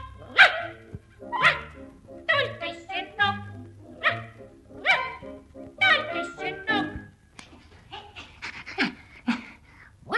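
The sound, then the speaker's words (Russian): A puppy barks and yips in a quick series of short, high-pitched bursts, panting between them, fairly loud for about ten seconds. “Хоть я не дорос до взрослой собаки, пифа во Франции знает всякой.”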